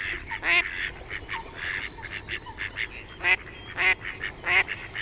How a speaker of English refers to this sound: It's actually a mallard duck, so not all ducks quack. And the one you can hear there, it's a mallard, but it's a female.